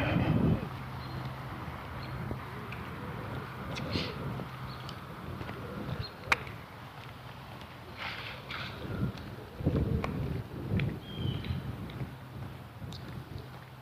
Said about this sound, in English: Hear the leaves rustling up there. Wind's picking up. There's some sort of storm front coming through.